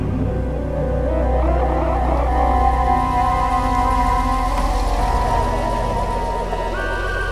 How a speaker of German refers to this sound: Nach etwa 10 Minuten näherte sich ein Streifenwagen.